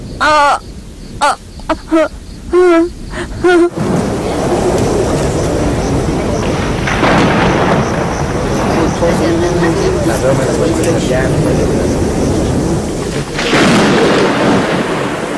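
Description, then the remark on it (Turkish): A few sharp bird caws ring out, then a deep, rolling thunder rumble swells in and carries on loudly for several seconds, building again near the end as if a storm is about to break. “Sanırım yağmur yağacak. Galiba gökyüzü Rahil'in haline ağlamak istiyor. Bu tanrıların öfkelendiğini gösteren bir işarettir.”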